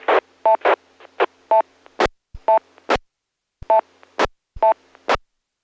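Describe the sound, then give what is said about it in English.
A string of short, irregular electronic Morse code beeps comes through a radio net channel, each tone bracketed by crackly bursts of static, with brief silent gaps between groups and no one speaking. “It's funny how that Morse code always comes in right at that same time.”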